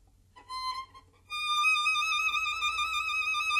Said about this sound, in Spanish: Este efecto en música se llama trino.